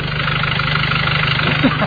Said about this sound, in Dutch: Ja, hij loopt nou. Ja, zoals die soort je moet lopen, ja. Geluid van een VW-transporter diesel.